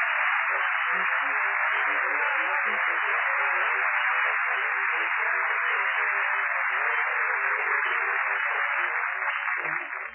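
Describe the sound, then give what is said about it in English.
Everybody in a restaurant bursts into sustained applause, a dense, steady wash of clapping lasting about ten seconds before trailing off. The sound is thin and tinny, with no voices heard. “You say, well, if it isn't Douglas Fairbanks, Jr., and everybody in the restaurant applauds.”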